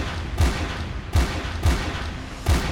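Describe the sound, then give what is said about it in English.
Four loud gunshots crack out at uneven intervals over a steady, hissy background on an emergency call recording from a house with an intruder, with no voices heard between the bangs. “A few seconds later, you hear five gunshots.”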